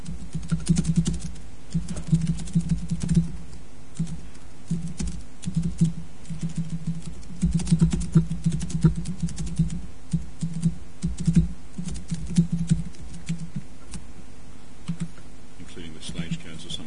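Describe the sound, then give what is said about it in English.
Typing on a Windows computer keyboard, including the context menu key: a steady stream of quick, irregular key clicks in short bursts, over a low, constant background hum. “Yeah, this is meant to, this is the context menu key, you know, on Windows, but it, I instead went to the file menu.”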